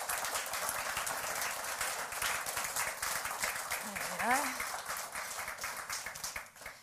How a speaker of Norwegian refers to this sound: så jeg synes vi skal ta og gi han en applaus i det han kommer opp her.